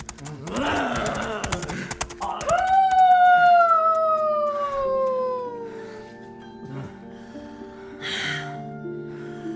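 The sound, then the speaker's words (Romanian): A wolf lets out a single long, loud howl that holds steady and then slowly slides downward before fading, following a brief burst of rough noise and rapid clicking. “Galop! Galop! Galop prin câmpie sau urlete de lup.”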